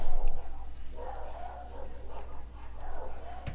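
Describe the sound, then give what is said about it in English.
Dogs bark and yip somewhere in the background, a string of muffled, distant bursts repeating over a steady low hum. “Sounds like dogs are eating something up over there.”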